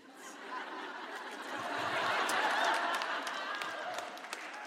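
crowd, audience clapping

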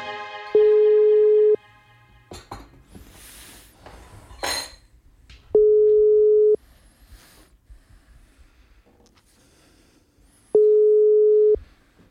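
signal or alarm, telephone call tone

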